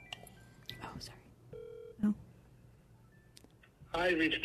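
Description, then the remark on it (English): A phone dialing on speakerphone: a few brief electronic tones beep over low murmuring voices and background hum, followed by a burst of louder talking at the end. “just call him and put him on speakerphone, maybe”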